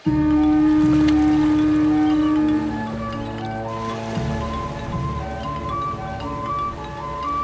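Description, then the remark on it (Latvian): A boat crosses the open sea to Bagamoyo on the African coast, opposite Zanzibar, its engine droning steadily over the wash and splash of sea waves; the sound is loud and continuous, easing slightly after the first few seconds. “Stenlijs sakravā somas, paņem laivu un hop! Dodas pāri jūrai.”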